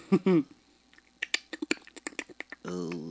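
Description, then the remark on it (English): A voice imitates a cockroach with a rapid, irregular run of about fifteen sharp mouth clicks, framed by short voiced sounds before and after. “I don't like your roach impression. The clicking noises you walk around.”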